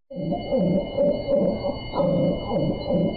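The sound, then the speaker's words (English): A devocalized female dog, whose vocal cords were cut, gives a rasping, hoarse bark that repeats in a near-continuous run of strained, wheezy calls with wavering pitch, fairly loud and alone for about three seconds. “That's the sound of a dog whose vocal cords were cut just to stifle her voice.”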